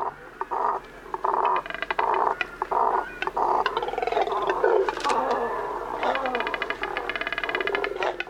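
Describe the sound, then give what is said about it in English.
A chorus of deep, guttural croaks and grunts from a nesting colony of double-crested cormorants, large black water birds, overlapping continuously, with raspy pulsing calls and occasional sharper bursts, fairly loud throughout. “These deep, guttural sounds are coming from a nesting colony of double-crested cormorants.”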